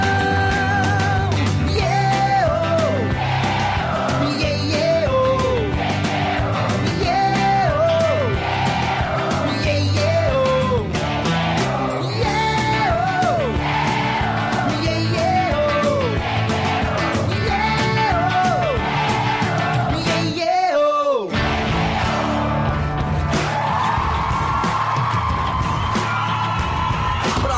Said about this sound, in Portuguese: Eu quero ouvir vocês nessa troca de energia. Vai, galera, coração. Quero ouvir a multidão.